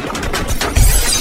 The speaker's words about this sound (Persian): ماشین با ضربات گلوله سوراخ سوراخ میشه.